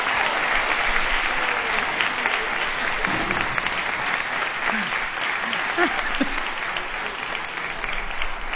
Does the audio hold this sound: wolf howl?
no